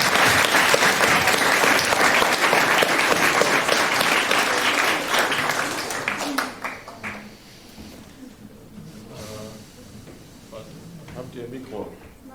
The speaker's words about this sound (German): Von daher, Minerooms, großen Applaus für Minerooms.